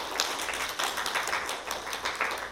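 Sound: audience applauding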